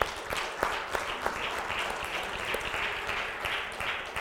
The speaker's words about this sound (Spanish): Démosle un aplauso a Él.